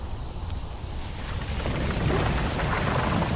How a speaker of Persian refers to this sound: زمین ریزش کرد. چی شده؟ زمین ریزش کرد، گروهبان سه افتاد پایین.